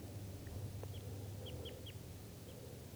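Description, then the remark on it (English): A wild bird calls from up in the trees with a handful of short, high, downward-slurred chirps, irregularly spaced, fairly soft over a steady low rumble of background noise. “And we'll call this guy that's still calling in the trees here bird number 3.”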